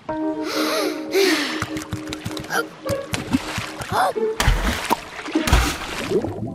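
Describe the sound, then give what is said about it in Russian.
Several bursts of splashing and sloshing water as kittens dive into the sea, mixed with excited gasps and snorting vocal sounds, lively over a busy background. “Оказавшись под водой, котята почувствовали себя как в невесомости.”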